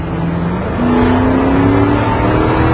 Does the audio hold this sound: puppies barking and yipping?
no